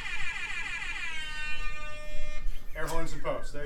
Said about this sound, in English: Yeah, for that wonderful air horn app. Yes, that is amazing.